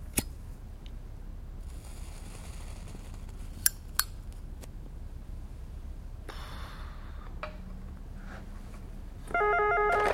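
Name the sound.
mobile phone ringing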